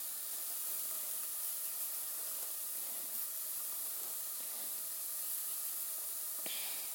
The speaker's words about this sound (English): So that's, they're frying off nice. I'll turn them down in a minute so that they don't burn.